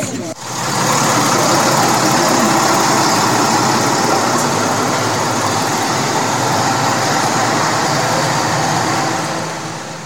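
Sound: bus engine idling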